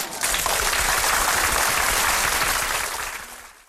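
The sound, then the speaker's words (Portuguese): A crowd claps steadily for several seconds to applaud a guest on a radio programme, a dense, loud burst of applause that holds even and then gradually fades out at the end. “Palmas para ele!”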